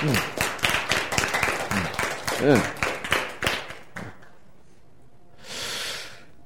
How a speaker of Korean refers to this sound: 박수.